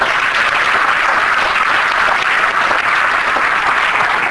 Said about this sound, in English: Give that a hand clap.